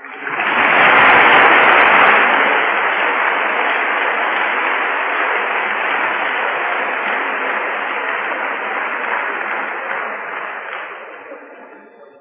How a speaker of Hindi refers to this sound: बाप दादा सभी ने तालियां तो बजाई और बाप दादा आप का जो सहयोगी बने उनके लिए ताली बजा दे।